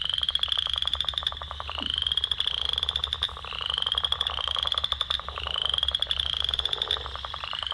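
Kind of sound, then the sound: animal, western chorus frog calling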